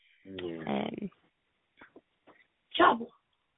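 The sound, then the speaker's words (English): A dog having one of its mad fits barks wildly: a long, strained yelping bark, a few small scuffling noises, then one more sharp, loud bark. “Sorry, my dog's having that one of his mad.”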